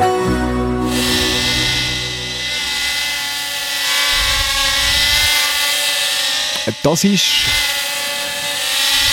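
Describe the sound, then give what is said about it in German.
A small drone flies through a radio studio, its high whirring rotor whine buzzing steadily throughout, with a brief voice-like sound near the end. “Das ist eine Drohne, die da durch das Studio fliegt.”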